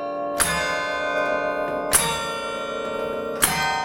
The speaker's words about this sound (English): I started out with a series of University of Wisconsin songs, ones that I know were played when the bells were installed in 1937.